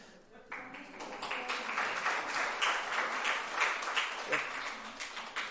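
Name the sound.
audience applauding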